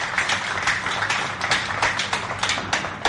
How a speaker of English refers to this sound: We should all applaud the excellences here for being with us today.